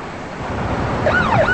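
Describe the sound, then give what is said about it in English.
A police car siren wails on a busy street as an unmarked police car pulls up, sweeping up and down in pitch over a steady rushing street-noise background. It rises in about midway through and stays fairly loud. “As an unmarked police car pulls up, she quickly turns the other way.”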